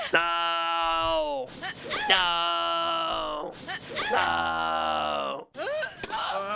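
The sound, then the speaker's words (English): A man's voice imitates a female tennis player's grunts while hitting, letting out three long, loud, strained vocal shrieks in a row with brief breaths between, ending with a short shout. “Can you imagine playing me in tennis and I got to make those noises?”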